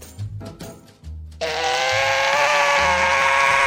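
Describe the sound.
After a few soft low thumps, a voice launches into a loud, sustained, raspy buzzing screech, imitating an angry sugar glider's harsh chattering cry, holding steady for over two seconds.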